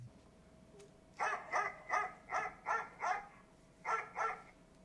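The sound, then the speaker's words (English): A dog barks in a quick burst of about six sharp barks, pauses briefly, then barks twice more, clear against a quiet background with a faint steady hum. “It's a dog barking.”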